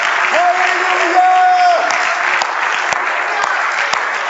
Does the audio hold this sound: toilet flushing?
no